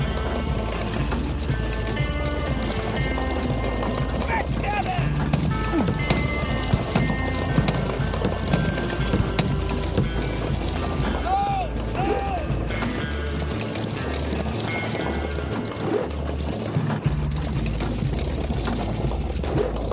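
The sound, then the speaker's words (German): Rapid, rhythmic hoofbeats of a galloping horse in a video game drum steadily throughout, mixed with game sound effects and a brief whinny-like rising tone in the middle; no one speaks. “Du wirst seine Stimme nicht immer hören. Also achte auch auf sein Pferd.”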